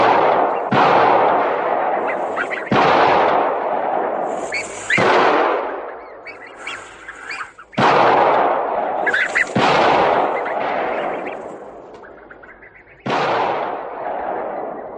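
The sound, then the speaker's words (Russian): About six loud gunshots from hunters shooting at ducks flying up out of the reeds crack out at uneven intervals, each blast trailing into a long rolling echo, with faint high bird calls in the gaps. “Мужчины бьют с подхода, стреляют по уткам, взлетающим из камышей.”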